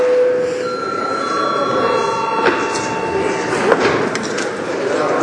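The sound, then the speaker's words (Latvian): A chairman's bell rings with steady, sustained tones at several pitches, the notes shifting and overlapping over a low murmur of voices, with a couple of sharp knocks partway through, rung at a deputies' session to open the deputy registration. “Lūdzu zvanu, lūdzu deputātu reģistrācijas režīmu.”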